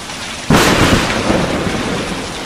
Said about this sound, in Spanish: Cafarnaúm es un desierto. Se han adueñado de ella viento, lluvia, truenos, relámpagos y ahora el granizo. Que suena y rebota en terrazas y fachadas.